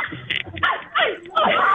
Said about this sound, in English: I think I hear a dog barking in the background. I wonder if the dog is barking over the eclipse or barking over there being so many people outside this time of day. Probably both.